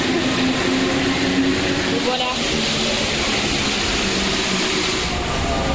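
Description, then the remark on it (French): A line 4 metro train runs steadily with a loud, dense rumble and hiss, faint whining tones gliding through the roar, while muffled voices murmur underneath. “Ce bruit de métro reconnaissable parmi tant d'autres.”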